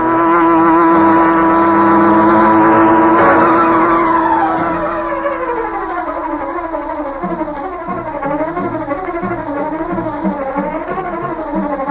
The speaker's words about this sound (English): Bleeker's car swung into the street and turned toward Schaefer's parking lot. A huge, sleek black car started along behind them. It was the car of the Green Hornet.